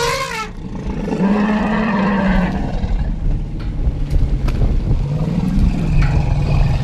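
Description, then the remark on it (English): A male and a female elephant greeting each other let out deep, rumbling grumbles that swell and fade over several seconds, joined by a brief higher trumpet-like call at the start, all loud with steady background noise. “So you can hear that little low grumble. That means that the elephants are happy.”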